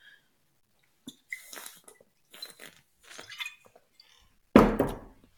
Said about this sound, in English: Take a sip of water.